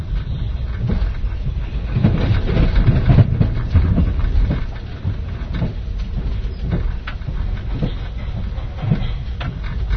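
A steady, heavy rumble of a moving sleeper train as heard from inside a carriage, with a dense low roar and faint rattles and clicks running continuously throughout, no voices.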